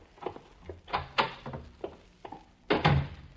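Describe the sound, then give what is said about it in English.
A door is worked open: a series of sharp knocks and clunks, ending in a louder, heavier rattling thud as it swings. No voices. “Why aren't you answering the door?”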